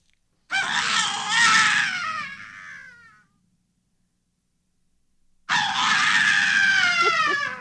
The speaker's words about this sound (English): This was just, I found this in the library. I don't know what it was recorded for specifically, but this is a session for that initial scream at the beginning of the cue.